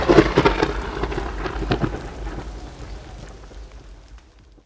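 Heavy rain pours steadily while a deep roll of thunder rumbles loudly at the start, then slowly fades away into the hiss of the downpour.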